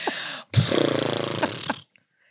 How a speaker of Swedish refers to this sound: för att jag flåsar så otroligt bestämt.